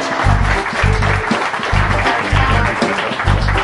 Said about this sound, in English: Okay, round of applause.